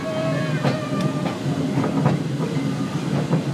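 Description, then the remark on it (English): A steam tank engine train on the Sheldon Main Line rumbles steadily, with a rhythmic clickety-clack of wheels over rail joints and faint, thin metallic squeals drifting above the low, continuous roar. “The tank engine then behind us.”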